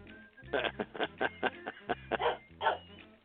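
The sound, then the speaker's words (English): An old dog barks in a quick, uneven string of about ten short, sharp barks, moderately loud, with no voices over it. “Hard to bark on cue when you're suffering from dogmentia.”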